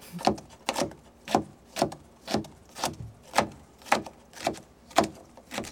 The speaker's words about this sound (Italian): Allora, inizio a tagliare e tritare le cipolle.